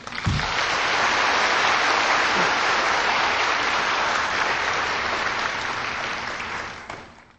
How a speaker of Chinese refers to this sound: 好，我们现在以热烈的掌声恭请师父为我们开示。